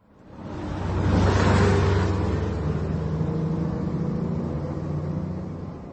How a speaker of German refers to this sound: fährt nun wie jeden Tag im vollbesetzten Bus von der Arbeit nach Hause.